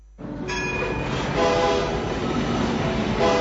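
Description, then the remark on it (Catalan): A rack railway train going up to the Vall de Núria rumbles steadily while its horn sounds in sustained tonal blasts, loud and continuous throughout, with no voices present. “Ara és l'ocasió de pujar a la Vall de Núria, ja que el tren cremallera per nens és gratuït.”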